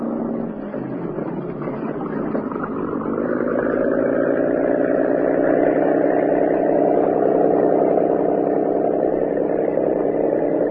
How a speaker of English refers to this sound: Professor Santos and Carl entered the boathouse and boarded the cabin cruiser. And within a few minutes, the boat was backed out into clear water